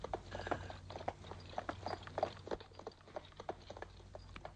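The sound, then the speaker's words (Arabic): Several horses' hooves clatter in a quick, uneven rhythm as the horses approach, with a steady low rumble underneath and no voices. “أتسمع أقدام خيل قادمة؟”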